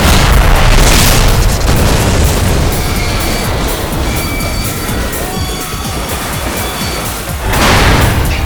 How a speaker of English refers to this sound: The spinning breech snapped shut on one explosive tip milliseconds after the initial grenade blast, and the HE shell ripped apart and self-destructed in a powerful flash. It set off the surrounding cannon rounds in a chain-fire explosion.